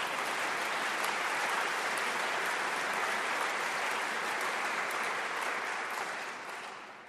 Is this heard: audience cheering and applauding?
yes